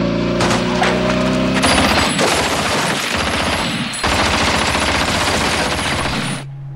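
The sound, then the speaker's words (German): A loud, sustained volley of gunfire at a military checkpoint, fired at a motorcycle on the order to fire: many rapid overlapping shots crackling and booming together for several seconds, with a brief break midway before the barrage resumes, then cutting off abruptly. “Feuer!”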